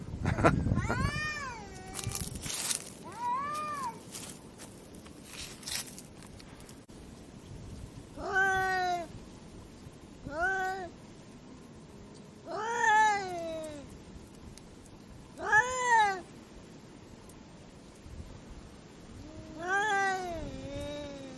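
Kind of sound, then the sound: animal, cats meowing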